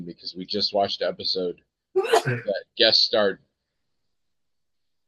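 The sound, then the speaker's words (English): A single sharp, loud sneeze bursts out briefly in a pause between stretches of a person talking, followed immediately by more speech. “Bless you.”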